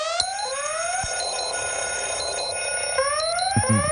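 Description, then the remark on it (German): An electronic alarm clock rings loudly and continuously, its bright tones sweeping upward and repeating in quick cycles, with no voices over it. “Hier ist die Erste Morgenshow um 7:12 und wir sprechen heute über Weckertöne”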